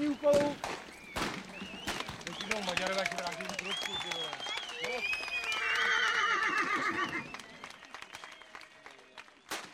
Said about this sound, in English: Then, with the Czech equivalent of Hajo Silva, the Pony Express riders wheel their horses and gallop out of the stadium. The public and the guns are delirious.